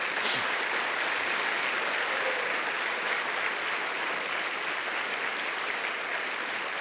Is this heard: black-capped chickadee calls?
no